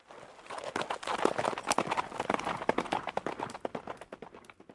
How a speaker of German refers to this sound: Na? Womit waren die Ritter unterwegs? Genau, mit Pferden.